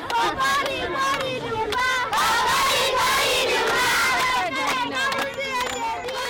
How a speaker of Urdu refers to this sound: بچے ایک مقامی امدادی گروپ کی جانب سے خوراک لانے والے ٹرک کا انتظار کر رہے ہیں. وہ خوشی کے موقعوں پر گائے جانے والے گیت گا رہے ہیں.